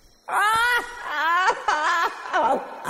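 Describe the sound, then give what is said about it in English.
A voice performs the agonizing, creature-like wails of the demon bird Seven Macaw: a loud, wavering high-pitched cry that rises and falls in several drawn-out, moaning bursts for about three seconds with no words. “The demon bird stopped his agonizing wails when he heard someone was nearby.”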